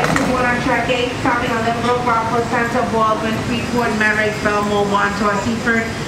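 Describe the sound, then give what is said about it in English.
Busy early-morning ambience at the terminal of the Long Island Railroad, the commuter train that runs east of New York City: a steady mechanical hum fills the space while voices talk continuously over it, with no clear pauses. “She met our producer early in the morning at the terminal of the Long Island Railroad.”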